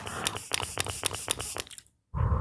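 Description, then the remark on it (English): A rapid run of about seven short, hissy spritzes of setting spray misting a beauty blender makeup sponge to wet it, evenly spaced, followed by a brief silence and then a duller rustling noise. “Just, it's a setting spray, but we're using it to make the sponge, moist.”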